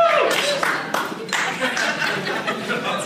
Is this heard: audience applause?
yes